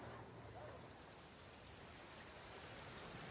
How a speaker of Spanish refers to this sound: Me gusta venir a pensar a los parques. Aquí, viendo correr el agua y escuchando a los pájaros, mi cabeza encuentra un poco más de calma y sosiego.